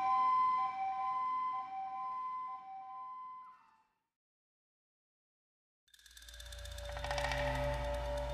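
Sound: ambulance siren wailing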